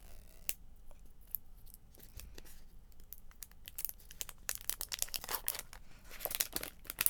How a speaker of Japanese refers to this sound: じゃあ、ミシン目を剥がします。この赤いやつは全部剥がしちゃうんですね。